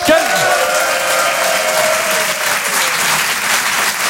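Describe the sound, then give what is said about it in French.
Steady, loud applause from an audience fills the whole moment, a dense wash of clapping hands with a brief tonal whistle-like sweep at the start. “Et à la fin du dîner, le discours du père de la mariée, c'est-à-dire moi, applaudissements, mes chers amis.”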